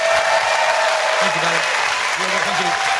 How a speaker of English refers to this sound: Ladies and gentlemen, please give a massive round of applause for Brady!